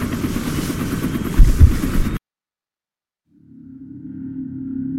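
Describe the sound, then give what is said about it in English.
Loud, dense helicopter rotor and engine roar cuts off abruptly, followed by a second of silence before a lower, steady mechanical drone gradually rises back in. No one speaks. “Follow me directly to the helicopter. Then when board, strap in.”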